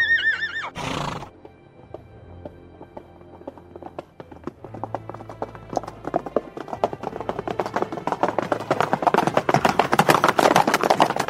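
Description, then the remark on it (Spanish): A horse whinnies once at the start, then hooves clip-clop in a steady rhythm that quickens and grows louder into a fast gallop. “Pero sí que puedo prestarte un caballo con un encantamiento de velocidad.”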